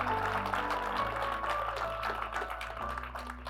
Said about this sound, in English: Yeah, give them a hand clap. All those that raise their hand. Come on, give them a big hand clap.